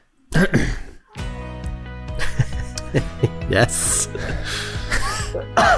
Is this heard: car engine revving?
no